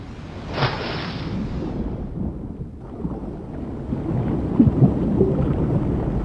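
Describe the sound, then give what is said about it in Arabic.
A hissing, bubbling rush of diving rebreather exhaust breaks out near the start and fades as the diver approaches olive ridley sea turtles, leaving a steady low underwater rumble with a few faint gurgles later on. “ما زال جهاز تكرير التنفس يطلق فقاعات قليلة، لكنني أستطيع الاقتراب ما يكفي من هذه السلحفات البحرية.”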